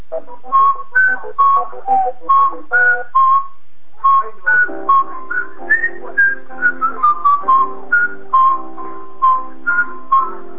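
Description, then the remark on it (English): Someone whistles a bouncy game show theme tune, clear pitched notes in a quick rhythm with a short pause partway, then continues over a low sustained musical accompaniment. “Do I get extra points for whistling the theme?”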